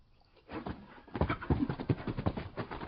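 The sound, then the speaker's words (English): Restless horses give a quick run of breathy snorts and shuffling, stamping sounds that build after a quiet start and continue in an uneven rhythm, with no one talking. “The horses do not seem to like this place.”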